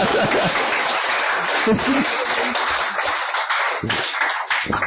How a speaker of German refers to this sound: Gebt doch mal einen Applaus für meine Übersetzerin.